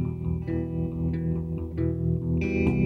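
Electric guitar played through a vintage Fender amp, with a warm, effected tone: sustained, slightly distorted chords with a chorus-like shimmer, shifting to new notes roughly every half second to second, no voices.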